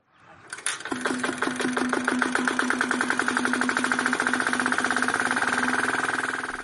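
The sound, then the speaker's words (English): A small engine on a cricket pitch roller at Johannesburg's Rivoli Cricket Club, South Africa, sputters to life, then settles into a steady, rapid chugging putter with a mid-pitched hum, loud and unbroken, with no voices. “On this cricket field, the pitch requires a swift roll.”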